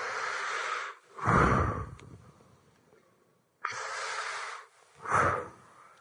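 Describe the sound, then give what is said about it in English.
Two deep breaths drawn in one after another, demonstrating breathing in. Each is a loud airy rush that swells and fades, separated by a short quiet pause. No one speaks. “And some of us just need to go with the oxygen mask of the word and start breathing it in.”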